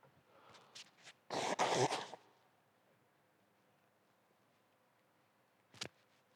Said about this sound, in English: Please pardon me while I blow my nose.